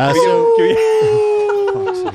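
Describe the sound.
A person imitates a wolf howl: one long, sustained vocal note lasting about two seconds, slowly sliding downward in pitch. It is loud, with faint chuckling or chatter beneath it.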